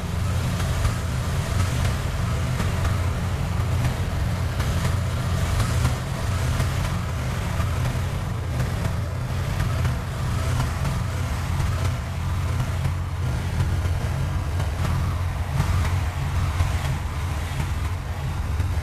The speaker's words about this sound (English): This is the moment before the gunman's departure, filmed on a nearby rooftop. Hijacked car.